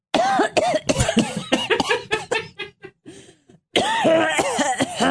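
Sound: coughing and throat clearing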